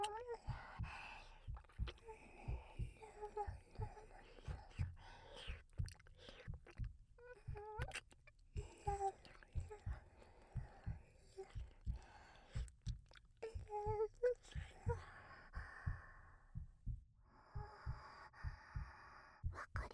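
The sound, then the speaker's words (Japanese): A steady, muffled heartbeat, heard through someone's back, thumps low, each beat arriving at an even, unhurried pace, while a voice speaks softly over it. “心臓の音、背中から響いているの。”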